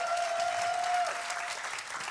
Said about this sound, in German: Einen großen Applaus in Linz und von uns für Linz.